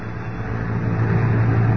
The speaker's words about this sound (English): It is late afternoon of the following day. Lois and Jimmy are riding atop a London bus. Listen.